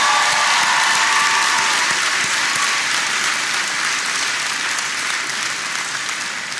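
A crowd applauds steadily for several seconds, a dense, even wash of many hands clapping at once, loud throughout and tapering only slightly toward the end, with no voices heard.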